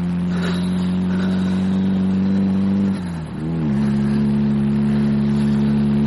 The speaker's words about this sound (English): Having engine trouble too, are we? No. No, it's all right now.